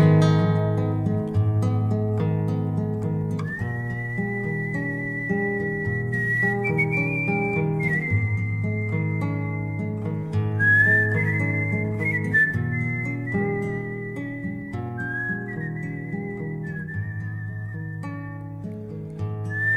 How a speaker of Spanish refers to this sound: El yuyo se fue arrimando como pa' ver qué pasó, pero se don Segundo con su silbido tristón.